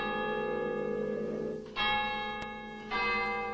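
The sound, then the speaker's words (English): A deep tower clock bell strikes two o'clock while snow falls lightly outside, each loud, resonant clang ringing out in a long, humming decay over the lingering tone of the one before. No voices are heard. “Outside, snow falls lightly as the tower clock strikes two.”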